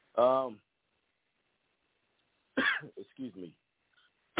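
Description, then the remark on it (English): A short, voiced throat-clearing cough sounds, followed after a pause by a couple more rough, clipped coughs in quick succession. “Sorry about coughing on air.”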